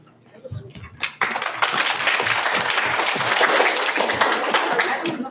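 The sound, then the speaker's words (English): At a Genius Hour student project presentation, a few scattered claps start things off as a presenter is welcomed, then the audience breaks into steady, loud applause that carries on evenly to the end. “As a reminder, please honor each presenter by listening and applauding at the end of the presentation.”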